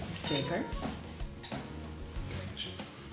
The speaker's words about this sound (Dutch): is eventjes de glaasjes nu aan het inschenken. Het ziet er bruisend uit. Oh ja, lekker.